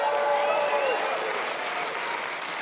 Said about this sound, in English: And I figured that's what you were going to do, but I want to let you know, thanks for applauding, but I had nothing to do with it.